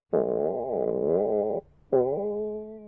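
A voice imitates a growling stomach with two drawn-out, wavering groans, a long one followed by a shorter one after a brief pause, loud with no other talk, illustrating the Japanese sound word 'goo' for a growling stomach.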